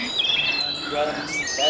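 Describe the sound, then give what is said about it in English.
A dense chorus of birds chirping and calling over one another, bright overlapping tweets and whistles filling the air steadily and loudly, with no pauses. “Oh, they're so loud, these birds. I can barely hear myself think.”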